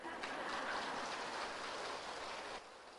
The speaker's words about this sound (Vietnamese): Vậy mà quý bà con vỗ tay hoan hô ha.